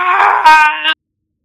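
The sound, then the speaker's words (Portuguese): A man lets out one loud, harsh scream lasting just under a second, swelling sharply halfway through before cutting off abruptly into silence. “E quando você passa a sua mão pelos braços dele, assim, tentando puxar, com um reflexo, você só consegue tomar um susto absurdo, porque ele começa a gritar.”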